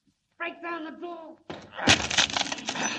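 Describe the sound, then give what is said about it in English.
A man shouts briefly, then a wooden door in the after hold of a ship is broken down: a sharp, loud crack of splintering wood gives way to a sustained, rough crunching and rattling of breaking timber. “Break down the door.”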